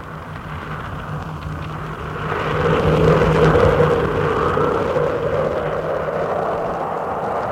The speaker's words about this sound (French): Tout à coup, un vent envahit la pièce.